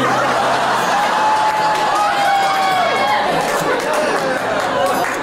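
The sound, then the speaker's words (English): The ladies in a crowd cheer and yell loudly for several seconds when asked to make some noise, a dense, steady roar with a few individual shouts rising above it. “I like how somebody yelled with a lot of grit.”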